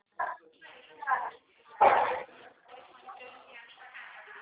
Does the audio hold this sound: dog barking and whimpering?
yes